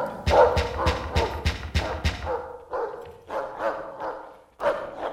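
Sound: dog barking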